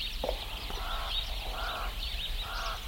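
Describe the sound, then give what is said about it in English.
A chorus of birds calls continuously at dawn in the open air in a small rural town in the Succulent Karoo, southwestern South Africa, with shrill chirps and repeated harsh, honking calls rising in bursts over a low steady rumble, no voices present. “Birds greet the day in the small rural town of Newitzville.”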